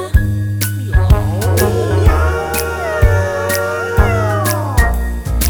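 A long, wavering cat meow stretches for several seconds, rising and falling in pitch, over a loud musical backing with a steady, regular beat. No one speaks.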